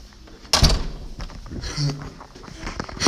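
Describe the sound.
A key works a door lock, then the door is opened with a sharp clunk followed by a few rattles and handling noises, with faint muffled voices in the background.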